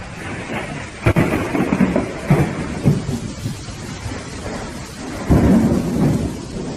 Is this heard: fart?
no